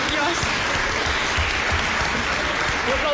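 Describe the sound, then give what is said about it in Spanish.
An audience of schoolmates claps steadily throughout, a dense, loud wash of many hands applauding at an even level with no pauses, for the Sanluqueiras in the Salón de Actos of IE San Rosento. “Digo eu que vos, que sois os compañeiros, podeis dar un aplauso aquí ás nosas Sanluqueiras, non?”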